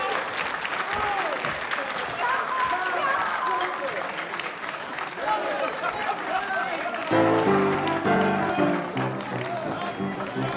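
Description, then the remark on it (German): Loud, sustained audience applause for the next performer, with cheering voices woven through it; about two-thirds of the way in, steady music with held chords starts up beneath the continuing clapping. “einen kräftigen Applaus für ihn.”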